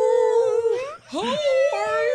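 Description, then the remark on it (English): Drawn-out, moaning whale calls, with long tonal wails that slide up and down in pitch, a short gap near the middle, then another rising, sustained cry. Loud, with no talking. “Whale noises.”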